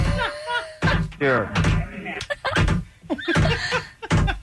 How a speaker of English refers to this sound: Sure. Mind you, what are you doing? I'm getting my can and I'm slamming the can against the desk.